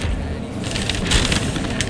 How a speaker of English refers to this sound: I love the sound of the paper and the microphone.